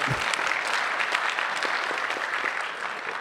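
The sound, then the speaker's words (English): Steady audience applause, a dense crackle of many hands clapping at once, holding an even loudness for the whole few seconds with no voices standing out. “So applause, everybody, now.”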